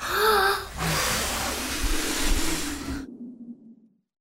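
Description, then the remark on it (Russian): A person imitates a wolf blowing hard: a brief voiced onset, then about two seconds of loud rushing breath that cuts off and trails away. “Волк подул.”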